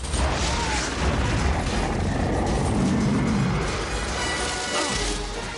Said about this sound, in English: They clamber over the fence as Godzilla batters it with his snout.